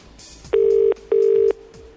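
A phone line ringing on a call to a mail order company: two steady electronic tone bursts, each under half a second, separated by a short gap, clear over faint line hiss, with no one speaking.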